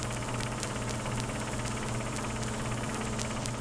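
A car engine hums steadily with a low, droning rumble and faint rhythmic ticking, a continuous motor sound of a vehicle cruising along Highway 79 without any voices.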